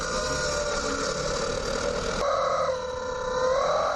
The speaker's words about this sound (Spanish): ensarta el pollo en la salida del tubo de escape, como si estuviera el pollo en un asador, y después conduce el coche. Este sonido que vamos a escuchar es el que produce tu coche cuando llevas un pollo de goma en el tubo de escape.